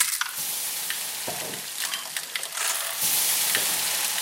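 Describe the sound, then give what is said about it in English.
Onions, ginger, garlic and tomatoes sizzle steadily in a hot pan, with a constant crackling hiss and occasional scraping clicks of stirring; no one speaks. “So he's frying up some onions, some ginger garlic, some tomatoes.”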